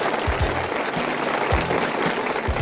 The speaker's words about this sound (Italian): Un applauso, caro regista, perché finalmente Monza ha deciso di non costruire più in Cascinazzo.